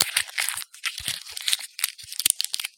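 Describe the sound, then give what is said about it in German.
A 10-euro banknote is crumpled into a ball right by the microphone, producing dense, irregular crinkling and crackling bursts for a few seconds, with no voices. “Was siehst du? Ein Papierknäuel. Bisschen bunt. Da ist eine EU-Flagge drauf.”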